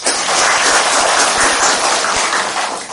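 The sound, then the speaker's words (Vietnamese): A crowd bursts into loud, sustained applause, many hands clapping densely and steadily for a few seconds with no talking over it, as the audience is asked to applaud if they do not gamble or drink. “Còn bà con ở đây nói không có cờ bạc, không rượu chè, tròn tràng pháo tay đi.”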